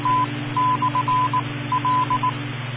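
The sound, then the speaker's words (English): EchoLink station disconnect tones as a station drops off the EchoLink port: a run of short and long mid-pitched beeps in an uneven, Morse-like rhythm, sounding over a steady low hum with no voices. “W2TPT disconnected.”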